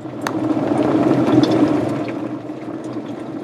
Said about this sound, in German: Das kochende Wasser gießt anschließend in den Krug mit den Kräutchen.